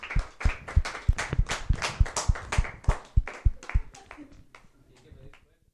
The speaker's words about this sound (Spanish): Bueno, nos despedimos entonces. Bueno, nos demos un aplauso. ¿Les parece?